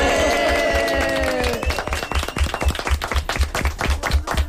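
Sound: applause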